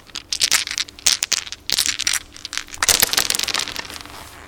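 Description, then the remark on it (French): A handful of six dice used for playing the game 10,000 rattle and clatter together in quick, irregular bursts of sharp clicks, fairly loud, as they are shaken and tumbled across a hard surface without a dice tray. “C'est mes dés pour jouer au 10 000. Justement, le 10 000 est un jeu qui se joue avec 6 dés.”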